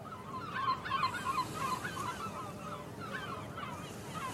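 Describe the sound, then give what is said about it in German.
Gulls call repeatedly in short, squawking bursts, joined by thinner swift cries, as the birds circle over the narrow alleys of the historic city of Barcelona, over a steady low rumble of outdoor background noise. No one speaks. “begleiten ihn die Rufe der Möwen und Mauersegler.”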